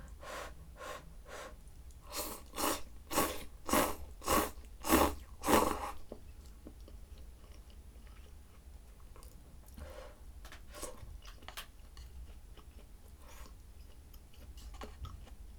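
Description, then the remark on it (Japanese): Chewing while eating curry, a steady run of wet, rhythmic bites that grows louder over the first several seconds, then fades into softer, scattered mouth clicks and smacks. No one speaks. “もしかして咀嚼音が嫌いな人とかいたらごめんね。”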